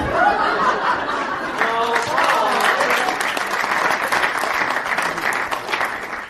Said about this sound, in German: Sie hören es, die Stimmung ist gut. Den kräftigen, ja stürmischen Applaus hat Jan Bodinus' Inszenierung wirklich verdient.